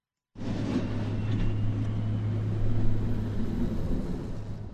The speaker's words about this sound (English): The familiar sound of plows today as a nor'easter brings dry, powdery snow to the state with highest totals along the coast.